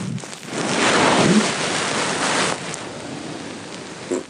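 Steady, breathy rustling of fabric from a person asleep at night fills several seconds, then near the end comes one brief, small, low fart, quick and soft.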